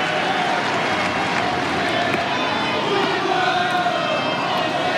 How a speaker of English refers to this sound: And listen to the crowd. Nole, nole, nole. And now the Fonseca supporters are getting their chants going.